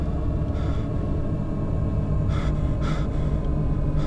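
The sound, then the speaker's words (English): Shallow, labored breathing with a few rough gasping breaths, spaced irregularly over a steady low rumble. Moderately loud, with no talking. “Your breathing becomes shallow and labored.”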